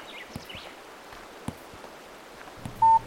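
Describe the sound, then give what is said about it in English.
A smartphone gives one short, clear electronic beep near the end as it is set up to run its camera and record, against a quiet outdoor background of faint rustling and a few soft clicks. Nobody speaks. “I'm going to set up my phone over there and run the camera to cover the whole crime scene.”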